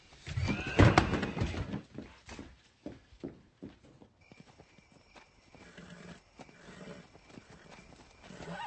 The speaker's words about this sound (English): She's my horse. Calm down. Give me a chance to talk to him. He doesn't listen when he's this mad.